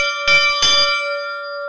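Small hand mass bells with three tones, like those of a church bell tower, used to announce the start of holy mass, are shaken twice in quick succession, bright, then their clear ringing tones linger and fade evenly with no voices.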